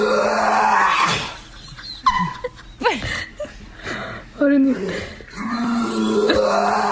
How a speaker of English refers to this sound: It is her dog gagging on a flower. What? By the way, her dog is totally fine. Oh, she ate the flower. The vet said her dog is completely healthy afterward. So here it is. Now listen to it knowing this is a dog gagging on the flower.